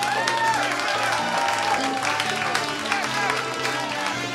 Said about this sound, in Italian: Grazie, fatevi un applauso.